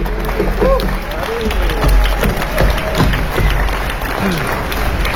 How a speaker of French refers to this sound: Je vous demande d'applaudir, s'il vous plaît, bien fort